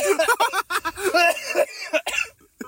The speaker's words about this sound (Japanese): なんか笑いすぎて、あーもう咳と笑いが。